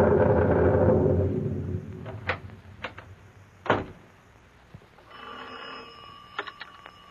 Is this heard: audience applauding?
no